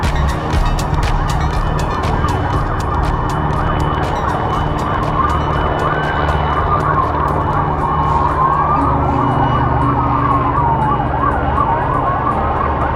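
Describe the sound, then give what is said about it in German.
Police sirens wail and sweep up and down over a steady helicopter drone, with a rapid rhythmic rotor chop audible at the start; loud, continuous and with no talking. Recorded in Poland ahead of Donald Trump's visit. “Hubschrauber, Polizeisirenen.”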